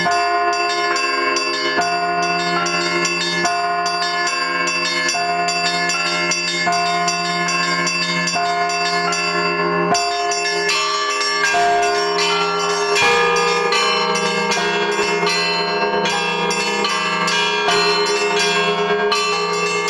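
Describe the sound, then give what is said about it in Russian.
Church bells peal continuously in a dense, overlapping ringing pattern, loud, with rich sustained tones layering over one another and no voices present. “Вот так постепенно идет возрождение колокольных традиций, появление новых.”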